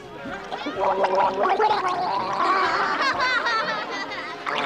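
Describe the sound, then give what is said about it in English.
A wet, bubbly gargling sound churns on for several seconds, a warbling, vocal-like rattle of water that wavers in pitch and stays fairly loud throughout, as a ventriloquist pours a glass of water into his puppet's mouth. “… pours water into the puppet's mouth.”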